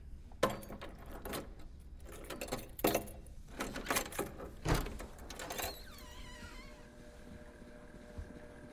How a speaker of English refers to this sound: Christ, those keys are big.